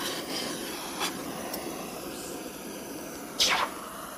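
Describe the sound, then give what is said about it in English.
Hot copper, heated to a deep cherry red, hisses as it's quenched in a pail of water: a steady, soft sizzling wash with a few brief, sharper bursts of hiss, the loudest near the end. No one speaks. “Well, that was the hot metal going into that pail of water.”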